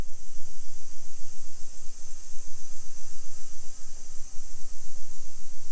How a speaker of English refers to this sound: Now, if you listen to bottlenose dolphins, they're much smaller and make higher frequency clicks and whistles. So now I'll play a recording of a bottlenose dolphin pod.